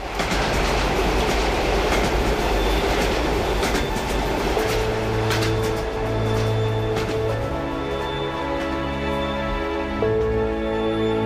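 A train rolls steadily along the rails, loud, with a continuous rumbling drone, rhythmic clatter of wheels, and a sustained low hum that steadies midway through.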